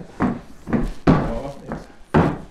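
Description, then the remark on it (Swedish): The door of the Övre Sundom Mangelförening house being unlocked with a key and opened, heard as a series of five wooden clunks and rattles, with the firmest knocks landing midway and at the end. “Ska vi kliva in? Ja, varsågod. Stig på. Och en fin sån där nyckel och dörr hade du”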